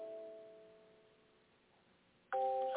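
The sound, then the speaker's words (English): A mobile phone left switched on during a church service rings with bright, sustained chime-like tones that slowly fade, then the ringtone abruptly starts again louder near the end. No one speaks. “1:30, excuse me, I did not shut my phone off.”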